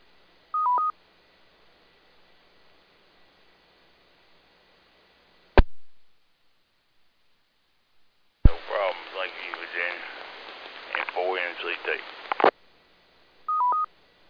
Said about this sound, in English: I'm going to leave the tones up for just a minute or two in case someone else has a report, and then if not, we'll bring the tones down.